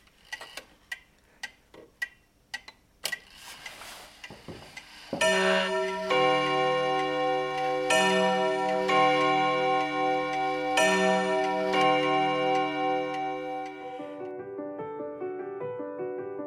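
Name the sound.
clock ticking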